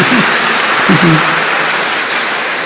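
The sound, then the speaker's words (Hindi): A crowd claps steadily in a dense, sustained wash of applause that stays loud throughout, with a voice faintly audible beneath the clapping near the start. “अरे बाप रे, देखो हाँ देखो ये सब कितना बड़ा विघ्न पार करके आए हैं, और ताली बजाओ इनके लिए।”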